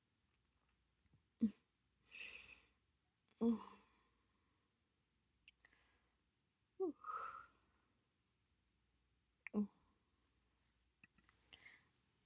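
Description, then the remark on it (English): A person yawns several times, each one a breathy, drawn-out exhale with a low voiced edge, spaced apart by quiet pauses and a few soft clicks, with no talking. “Quit yawning, you're gonna make me yawn.”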